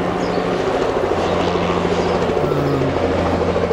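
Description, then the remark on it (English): A helicopter, one of the captains' helicopters, drones steadily, its rotor producing a constant low thumping hum with a sustained engine whine that stays loud and unbroken throughout. “I think what we're seeing is one of the helicopters of one of the captains.”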